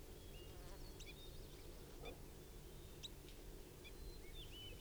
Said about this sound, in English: Birds are just chittering and giving soft calls now. Bird's caught. The wild bird's caught.